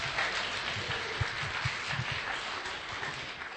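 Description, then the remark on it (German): A crowd in Berlin applauding steadily, dense overlapping claps forming a continuous wash of sound, with no talking over it. “Wir geben einen Applaus.”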